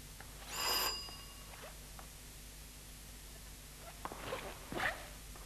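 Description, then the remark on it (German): A doorbell at an apartment door gives one short, bright ring near the start, then fades to a quiet background hiss with a few faint knocks and shuffles toward the end. “Gut, ich klinge mal.”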